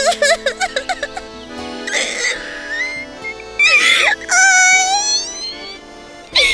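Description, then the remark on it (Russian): A voice imitates a hare crying during a Russian fairy tale reading: a quick run of short, hiccuping sobs, then drawn-out, wavering whimpers and wails, fairly loud, with no other talking. “Вот заяц опять сидит и плачет.”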